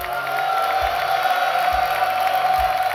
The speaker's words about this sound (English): Can the men just lift a thunderous applause right quick? Come on, men.